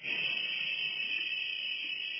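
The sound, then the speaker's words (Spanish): A Chilean woman's voice imitates a running shower as a farewell, with one steady, high hissing whoosh that holds at an even level for about two seconds, with no breaks and no talking. “Y la última cuestión, en una cosa simpática, le invito a hacer el ruido de la ducha para despedirnos.”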